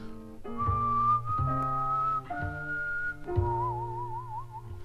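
A man whistles a tune in long, held notes over a steady instrumental backing, the chords shifting about once a second, ending on a wavering, vibrato-laden note.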